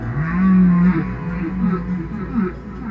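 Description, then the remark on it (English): Song of a large baleen whale singing intensely: a loud, low moaning tone swells and holds for about half a second, then gives way to a series of shorter, wavering low calls. “The baleen whales, when they sing, the big ones that are singing very intensely, those are very intense sounds.”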